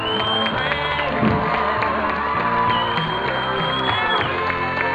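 A large crowd cheers and shouts loudly and continuously, with excited voices and whoops over what sounds like steady clapping, the noise filling the whole stretch without a break.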